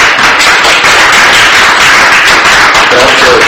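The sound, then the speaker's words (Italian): Sustained audience applause introducing a speaker at an evening event at a foundation, a dense, steady wash of many hands clapping at once, loud and continuous throughout with no voices standing out. “Benissimo, gli cedo subito la parola, introducendolo con un applauso, grazie.”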